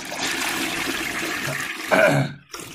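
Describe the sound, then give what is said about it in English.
A toilet flush rushes and swirls steadily for about two seconds, loud, then ends abruptly with a brief throaty vocal noise and quiet. “Although, that being said, though, I want to flush Manganelli in the toilet, even though he's not a nerd.”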